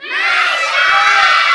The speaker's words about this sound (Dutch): En dan schreeuwen. En dan zing je, schreeuw maar heel hard meisjes. Ja? Komt-ie. 1, 2, 3.